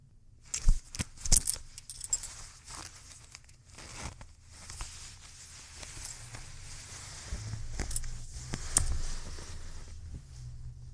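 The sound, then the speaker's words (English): A belt buckle clinks and rattles in a few sharp metallic bursts as a belt is undone, followed by a longer rasping pull of a zipper being pulled down and fabric rustling, with no talking. “So undo your belt, pull down your zipper, and slide your fucking pants off.”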